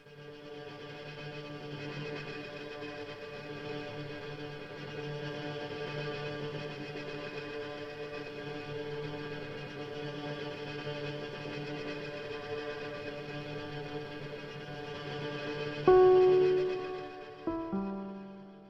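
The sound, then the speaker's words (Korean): Ambient electronic film score from the film The Social Network, sustained, layered droning tones holding steady at a moderate level, then swelling briefly near the end before cutting off abruptly as on the soundtrack recording, leaving a short echoing tail. No voices. “네, 그냥 음악이 이렇게 끝납니다. 방송 사고가 아니고요. 사운드 트랙에 이렇게 아예 수록이 되어 있습니다.”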